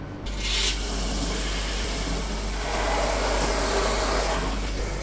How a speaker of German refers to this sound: wo der Eldi Quintero den Hochdruckreiniger in Betrieb nehmen kann